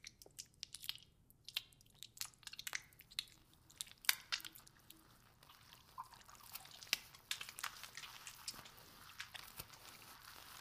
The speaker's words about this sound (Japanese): きめ細やかに丁寧に泡立てていきましょう。じんわりと髪と頭皮に浸透させるように、ゆっくりゆっくりと